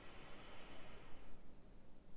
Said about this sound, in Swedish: Prana är livsenergi, det är en gyllene livsenergi som du från jorden och solen ska andas till ditt hjärta. Så dra ett djupt andetag och andas in prana.